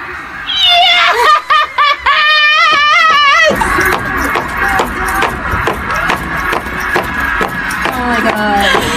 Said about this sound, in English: So one more time, note the stomping